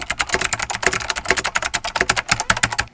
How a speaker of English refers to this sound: 3 of 5. We get the sound of a computer keyboard being typed on.